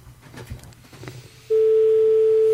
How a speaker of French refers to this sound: Ouais, sonnerie vénère, quoi. Ça fait trop vénère, moi j'ai peur.